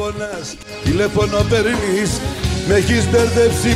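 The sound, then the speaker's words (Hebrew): A Greek song plays loudly, with a melodic singing voice in Greek over steady instrumental backing, beginning after a brief quiet moment and continuing without pause. “השיר הזה יוצא אליך, אתה יושב שם עם החברים בקריית ים?”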